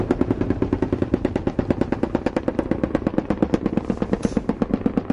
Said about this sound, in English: The helicopters pull back, and Miller orders ground fire. Hey, we got it. Fire! Get the tree line. Along the tree line!